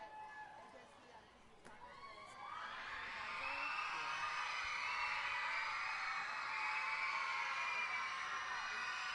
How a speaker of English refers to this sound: The video board prompts, easily followed by the young fans. They get loud and the screeches start.